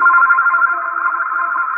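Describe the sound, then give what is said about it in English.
A telephone rings loudly and steadily, its bright, buzzing tone continuing without a break for the whole moment. No one speaks over it. “Yeah, that ringing is annoying.”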